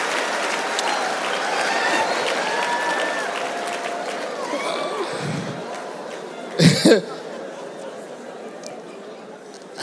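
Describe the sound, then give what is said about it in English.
An audience applauds steadily for several seconds amid crowd murmur, clapping in honour of the performer's late mother, with a brief loud burst of cheering or clapping toward the end before the noise thins out. “So I wanna clap for mama there.”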